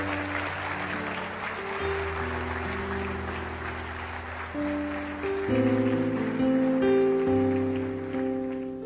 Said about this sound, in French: Et ce matin, on va applaudir le Seigneur, c'est sa grâce.